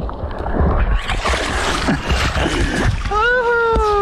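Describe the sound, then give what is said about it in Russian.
Seawater splashes and churns steadily, a busy, noisy wash of dirty, murky waves and movement through water as people go swimming in the sea at sunset, with a brief high-pitched voice calling out near the end. “Сейчас мы пойдем купаться. Волны, конечно, грязноватые, но ничего.”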